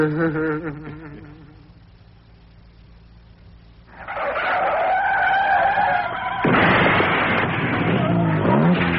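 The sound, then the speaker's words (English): A car's tires squeal in a long, loud skid, then a harsh crunching crash of the vehicle leaving the road, forceful after a quieter lull. “He gets a kick out of ditching cars, same as you do.”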